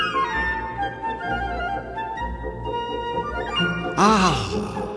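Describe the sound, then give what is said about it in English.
A steady humming, tonal background gives way near the end to a sudden bright fizz of bubbling in a cup of tea made with hot water, three teaspoons of sugar and raspberry, with quick gurgling pops sweeping up and down in pitch. “Listen to the bubbles.”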